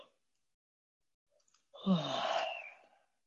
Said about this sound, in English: And there may be more yawns in there.